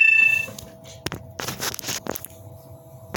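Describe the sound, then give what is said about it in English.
A phone's low-battery alert sounds: a brief high electronic tone, followed by a few sharp clattering, rustling bursts, with a faint steady hum underneath and no one talking. “Sorry, my phone battery went out, so I'm sorry for this, brothers and sisters.”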